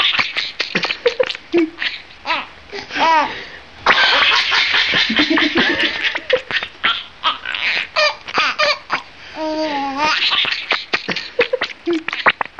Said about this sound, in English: When you see him do it, and we put a video on our website, radiolab.org, when you see him tickle the rat and the rat kick its little rat legs and chirp like mad, it does look like the animal's cracking up. Like a little kid.